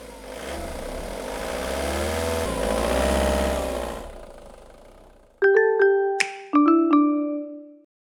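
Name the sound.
delivery truck driving away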